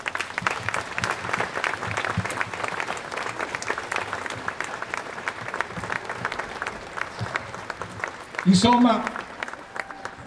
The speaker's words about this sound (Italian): A loro due e a tutti coloro che ci hanno lasciato in questo ultimo anno giunga il saluto e il ricordo di noi tutti. Vi chiederei un applauso.